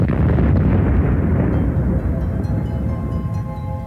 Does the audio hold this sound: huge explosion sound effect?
yes